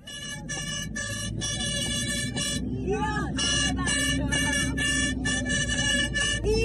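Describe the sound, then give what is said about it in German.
Plastic horns blare in a rapid series of loud, buzzy blasts, nearly continuous, blown by a group of women riding together in a minibus to the Azadi stadium, while voices chatter and shout underneath over a low vehicle rumble. “Mit Tröten ausgestattet fährt diese Gruppe Frauen gemeinsam zum Stadion.”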